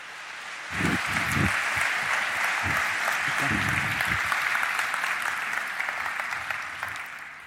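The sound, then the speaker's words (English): A crowd bursts into sustained applause welcoming two presenters to the stage before a talk on breaking PDF security, a dense wash of clapping that starts abruptly and holds steady for several seconds before easing slightly, with a few low thumps mixed in. “Please give them a great round of applause and welcome them to the stage.”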